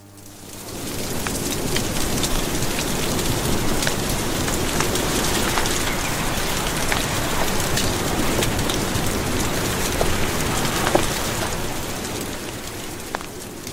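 Heavy storm rain pours down steadily, a dense continuous hiss with scattered sharper drop impacts, holding an even loudness for the whole stretch with no voices.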